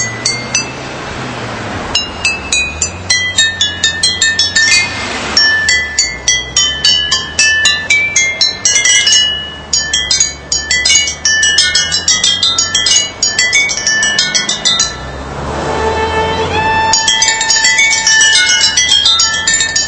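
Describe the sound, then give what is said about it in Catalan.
A lively melody tapped out on glass bottles by an Audi car in an Audi advertisement, with rapid, bright ringing clinks in a steady rhythm over a low hum, playing continuously with no voices. “Això és que són els audis, són tals cotxes impressionants que poden tocar això, un Audi amb ampolles, no, Cristina?”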